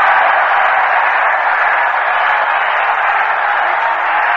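A baseball crowd at the Polo Grounds applauds and cheers at a New York Mets game after Frank Thomas throws out Jim Schaefer at first base, in a steady, dense wash of clapping that holds at an even, loud level for several seconds, with no voices standing out.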